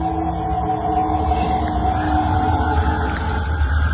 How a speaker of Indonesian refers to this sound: Angin bertiup kencang.